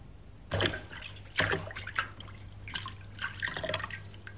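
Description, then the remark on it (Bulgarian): Rain dripping water, heard as a handful of distinct drops and splashes landing at irregular intervals, moderately loud over a steady low hum, with no voices. “Валеше, валеше, валеше.”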